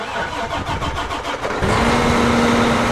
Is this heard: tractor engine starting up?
yes